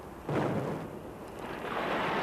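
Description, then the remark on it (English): A muffled blast booms suddenly and rolls on as a heavy, reverberant rumble, swelling again near the end: a dynamite explosion set off up above in an underground mine to take out the ore. No voices are heard. “Mr. Deletre, what is that noise I hear up above? That was in order to take out the ore. It was an explosion.”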